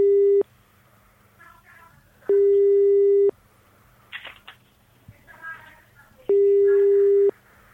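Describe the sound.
A telephone ringback tone sounds three times as a call is dialed during a live broadcast, each steady mid-pitched burst lasting about a second with pauses between, while faint murmuring voices and small clicks fill the gaps.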